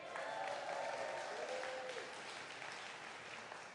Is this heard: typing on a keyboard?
no